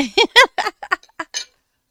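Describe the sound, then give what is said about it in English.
Pieces of glass for making wood-and-glass bookends clink together in a quick, irregular series of about eight bright, ringing taps, the first few louder and the last ones lighter, then silence. “I don't have enough room in here for all this glass.”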